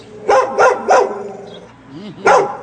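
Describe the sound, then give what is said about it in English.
A dog guarding its yard while someone looks over the fence into the property barks three times in a quick, evenly spaced burst, lets out a short high whine, then fires off one more loud bark. Sharp, with no talking. “He's actually in his yard, and somebody is looking over the fence into his property, and he is guarding it.”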